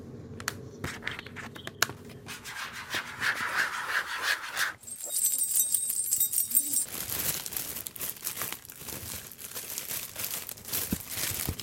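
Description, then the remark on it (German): Crinkly plastic foil rustles and crackles throughout, with bright metallic jingling of a keyring, a bunch of keys shaken in the middle section. No one speaks. “Den Schlüsselbund, also das Glockengeräusch praktisch und so eine Folie”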